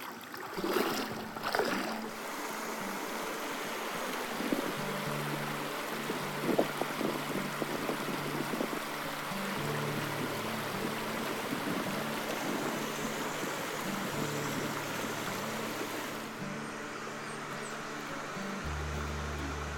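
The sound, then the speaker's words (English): Rushing swift river water hisses steadily throughout during a kayak fishing outing, with wind buffeting the microphone, a few scattered knocks and a low droning hum underneath. No one speaks. “Maybe on this swift water?”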